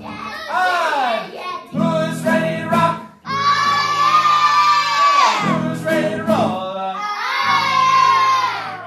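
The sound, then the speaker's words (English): Hundreds of fans scream and cheer loudly at children performing on stage, with high-pitched sustained shrieks rising in several waves separated by brief dips. “They go through the whole process up to when they're on stage in front of hundreds of screaming fans.”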